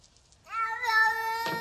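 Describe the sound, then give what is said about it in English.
A cat named Nancy, formerly Jinxie, lets out one long, drawn-out meow lasting over a second, clear, ending in a short rough burst. No one speaks. “I put the cat in an abusive home.”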